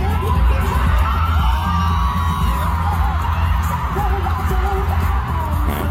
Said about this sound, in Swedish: du sa att hon fick den största poppen då, att publiken brast ut i ovationen när hon dök upp. Så jag var tvungen att leta reda på något klipp på det här. Så här lät det då.